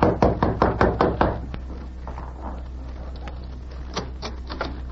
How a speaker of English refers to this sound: When he saw a light appear in the window of the editor's room, he entered the building and went directly to room number 4. He knocked on the door.